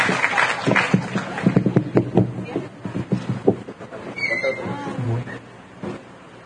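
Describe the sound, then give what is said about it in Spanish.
A burst of applause from a group, dense clapping for about three seconds that thins out and fades, with some voices murmuring underneath and continuing after the clapping stops. “Un aplauso para todos, quedó muy bien el primer promocional.”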